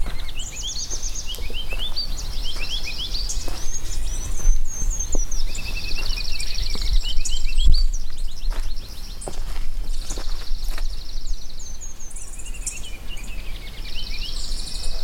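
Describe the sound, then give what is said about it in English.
A ruby-crowned kinglet sings high, thin, rapid phrases that repeat over and over, with other birds chirping and a steady low rustle of movement outdoors underneath. “Ruby crown kinglet.”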